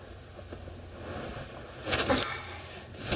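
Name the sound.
ambience inside a car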